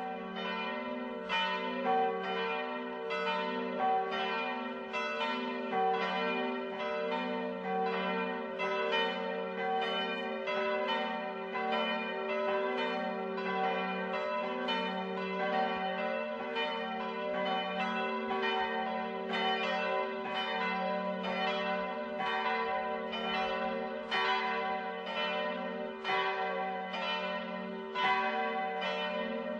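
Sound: church bells ringing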